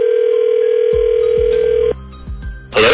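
An outgoing phone call: a loud, steady dial tone holds for a couple of seconds, then low line clicks and sweeps follow before a brief burst of noise as the line connects. No talking.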